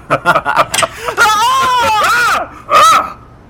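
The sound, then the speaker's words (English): Someone screams on a doorstep: a few short, choppy vocal bursts lead into a long, wavering, high-pitched scream, followed after a brief pause by one more loud shriek. “Who was that screaming on my doorstep?”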